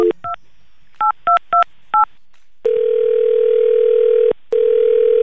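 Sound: telephone dialing tones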